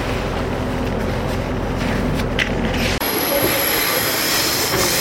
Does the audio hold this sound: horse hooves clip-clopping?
no